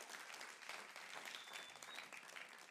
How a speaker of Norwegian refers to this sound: En applaus for Dennis.